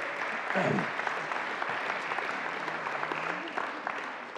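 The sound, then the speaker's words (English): A round of applause from a group for a woman who has just read a passage aloud, dense and steady clapping sustained throughout with a brief low murmur of voices beneath it. “Can she have a round of applause for that, I think?”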